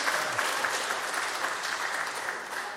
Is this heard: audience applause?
yes